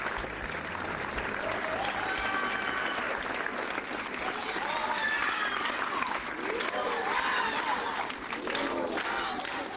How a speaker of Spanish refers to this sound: Un largo silencio solo roto por los aplausos y los gritos de ni una menos de los centenares de personas que se congregaron frente al ayuntamiento